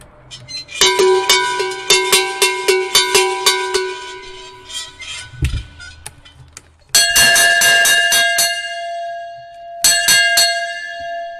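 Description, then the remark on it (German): Two different cowbells ring: a sheet-metal bell clanks in a quick rhythmic series, then a cast bell-metal bell strikes twice with a fuller, longer-ringing tone. “Also die erste, was du dazu gelegt hast, das ist eine Blechglocke, also eine Blechschelle. Und die zweite ist eine gegossene, wie man sagt, eine Speisglocke.”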